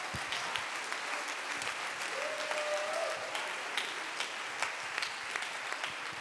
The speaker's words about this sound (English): Come on, clap your hands right now unto the Lord. Aplauda sus manos al Señor.